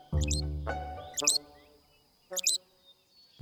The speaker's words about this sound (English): Loggerhead shrikes are songbirds, and they have these sort of rough-hewn songs, but the colloquial name for a loggerhead shrike is a butcher bird, and they're called butcher birds because they'll catch prey.